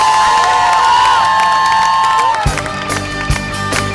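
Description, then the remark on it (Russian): An audience cheers and applauds for God, a dense wash of clapping and voices with a sustained high tone fading out midway, followed by scattered sharper claps and shouts. “Будь сегодня щедрым на аплодисменты для Бога, потому что Он достоин.”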